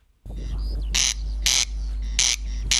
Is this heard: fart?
no